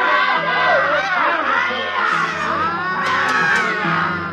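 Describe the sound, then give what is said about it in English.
A dense mob of men and women screams and yells together while charging up a hill at night, loud and continuous, with overlapping high-pitched shrieks rising and falling throughout. “Men and women, heaven knows what they were before, teachers, mothers, anything, screaming and running up that hill.”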